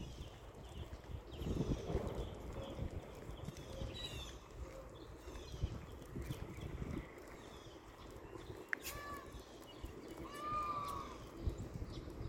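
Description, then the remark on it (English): A single loud peacock wail rings out near the end, rising over a busy outdoor backdrop of rustling, shuffling and bird calls, including mockingbirds. “That was a peacock.”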